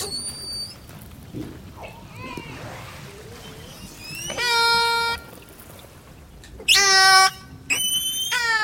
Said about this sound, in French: Alors, orque 2-9, top. Là, on a les sifflements des orques. On a aussi des clics et des buzz qui sont un peu différents.